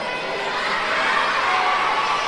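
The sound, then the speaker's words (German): A dense, steady wall of many children's voices shouting and cheering at once, loud and sustained without pause. “Was schreit ihr denn so?”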